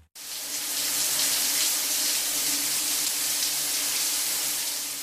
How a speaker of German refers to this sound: Liter Wasser fließen durchschnittlich pro Minute durch einen gewöhnlichen Duschkopf.